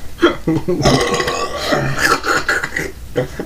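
human body sound, burp

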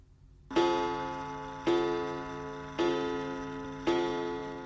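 household object, pendulum wall clock ticking

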